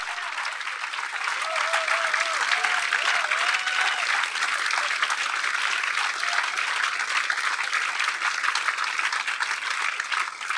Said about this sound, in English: Wow. Thank you, all of you. Absolutely incredible. Massive round of applause and thanks